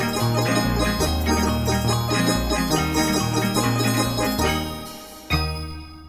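Full orchestral music from a 1989 Polish audio play of The Nutcracker, with a bright jingle of sleigh bells shimmering over a steady bass line, then a sudden cutoff and a fresh loud chord near the end.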